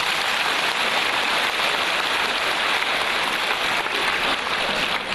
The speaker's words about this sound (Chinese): 鼓掌